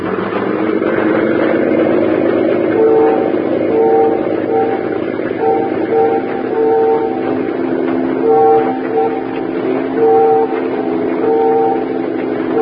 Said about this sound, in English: Those ferry whistles. They're signaling us.